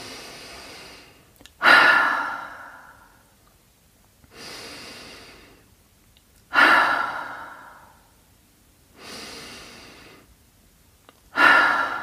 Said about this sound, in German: Also Nase ein, Mund aus, wir wiederholen dreimal.